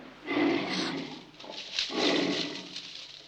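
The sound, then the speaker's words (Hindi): Two deep, rough growls from a wild animal, each lasting under a second with a brief pause between, loud with a harsh, rumbling texture and no talking. “छुप के क्या गुर्रा रहा है ढोलकी के, बाहर निकल”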